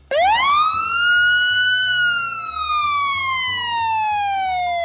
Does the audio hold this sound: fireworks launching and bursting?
no